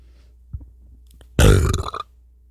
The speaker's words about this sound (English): Wow. That's a pretty decent burp. There was like something in the back of that burp that made it any more impressive. Yeah, those were, Pepperidge Farm cheddar goldfish.